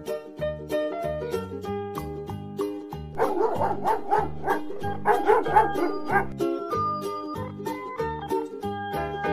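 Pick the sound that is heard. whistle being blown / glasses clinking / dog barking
dog barking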